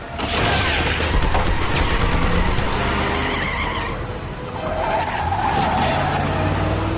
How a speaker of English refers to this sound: Jack gets behind the wheel of the police car, backs up swiftly, and then heads out at speed